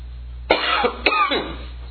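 Two harsh, raspy coughs about half a second apart, sputtering and strained as a speaker chokes during a talk, with rough throaty noise trailing after each burst and no speech.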